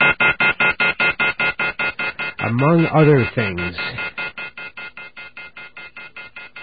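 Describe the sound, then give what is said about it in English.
A telephone left off the hook at radio station BAI sounds its off-hook warning tone, which blares as a fast, steady string of harsh buzzy pulses, loud throughout and easing slightly toward the end, while a man speaks briefly over it midway. “Well, anyway, that's what happens if you leave a phone off the hook here at BAI. You get all kinds of static.”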